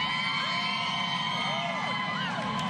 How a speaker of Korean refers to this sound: 뉴욕 맨하튼 브로드웨이 거리가 술렁였습니다. 여자 축구 대표팀의 성과를 축하하면서 이들을 직접 만날 수 있는 시가 행진이 준비됐기 때문입니다. Megan Rapinoe. 미국의 상징 성조기를 흔들고 챔피언을 외치는 시민들. 여자 축구 대표팀을 좋아하는 마음을 감추지 않았습니다.